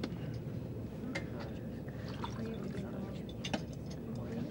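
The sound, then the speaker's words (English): Steaming cooking oil pours steadily into a mug for several seconds, a continuous trickle with a few faint clinks, over a low murmur of room noise. “Because you just poured me a steaming cup of cooking oil.”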